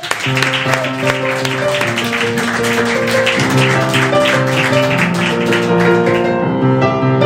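Loud, steady applause fills the whole stretch, a dense crackle of clapping that runs alongside sustained, tuneful musical notes, without a break, until it thins slightly at the very end.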